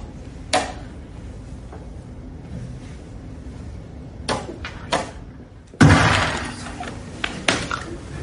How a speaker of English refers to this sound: Some people are calling it a hissy fit, thumping the board before exiting the playing hall abruptly.